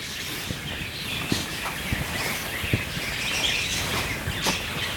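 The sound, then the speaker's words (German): A busy chorus of many small birds chirping and twittering nonstop, dense, with quick overlapping calls and a few sharper peeps standing out; no one speaks. “Ja, als wäre das hier vielleicht ein Vogelkäfig oder so.”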